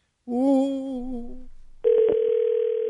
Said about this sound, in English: Virtually both lines are ringing at the same time.